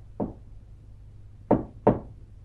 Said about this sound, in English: Unless she gets my code knock, she won't unlock the door.